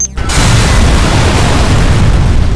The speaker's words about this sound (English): The shape charge was just that. It directed the high-frequency energies of its explosion with great precision.